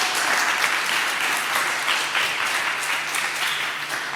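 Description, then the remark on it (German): A crowd applauds steadily at the closing session of an event, a dense wash of many hands clapping at an even, sustained loudness for several seconds, with no voices standing out above it. “Großen Applaus.”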